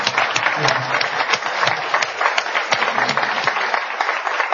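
A room full of people claps steadily, a dense patter of many hands that keeps up at an even level from start to finish.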